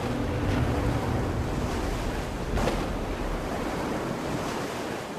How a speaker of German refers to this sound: Eine riesige Fontäne aus Wasser und Gas bricht aus dem See hervor. In der Nacht, gegen 9, da war da plötzlich ein Geräusch. Es hat sich angehört wie eine Maschine.